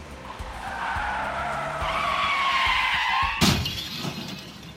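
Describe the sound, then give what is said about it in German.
Car tires screech in a long, loud skid for several seconds, then end in a sudden crash between two cars with a burst of breaking, shattering impact noise. “Aber die beiden Autos sind ganz kaputt.”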